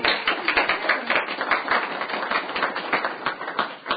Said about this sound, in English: So they deserve a little bit of a round of applause and thanks as well, if the Senate could provide that.